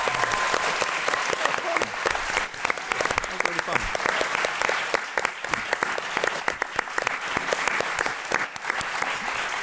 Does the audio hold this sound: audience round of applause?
yes